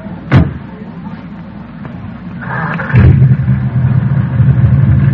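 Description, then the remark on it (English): An old jalopy car engine on a pier starts with a sharp crank near the beginning, then settles into a loud, steady, rumbling idle that grows fuller partway through and keeps running. “Man, the engine sounds nice, doesn't it?”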